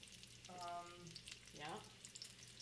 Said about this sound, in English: Okay, so now they're all sizzling, or the pot is sizzling, so now we can put them all in. The pan, thanks. With the oil, right.